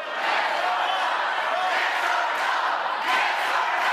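At a Univision-moderated debate, a large crowd chants "yes or no" together, egging on State Assemblyman Travis Allen over his immigration views, in a dense, steady roar of many voices, holding loud throughout with a few swells of emphasis near the end.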